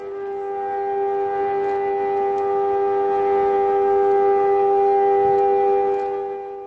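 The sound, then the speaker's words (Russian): A steady air-raid siren wails continuously across Israel on Holocaust Remembrance Day, signalling two minutes of silence as traffic stops nationwide; a sustained tone held at a nearly constant pitch for several seconds, loud and even, with no voices or other sounds around it. “По всей стране по сигналу сирен остановилось движение и были проведены 2 минуты молчания.”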